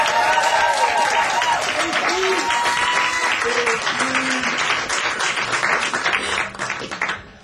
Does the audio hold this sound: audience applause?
yes